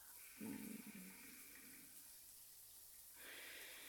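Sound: shower water running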